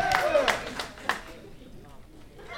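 A crowd lets out a short burst of cheering and whooping mixed with clapping after an audience member says he is from Youngstown, loud at first, then quickly fading into a quieter murmur of applause within a couple of seconds.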